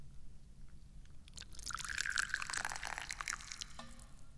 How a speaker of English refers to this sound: Let's get some tea going here. I haven't had any tea yet today. Let's pour.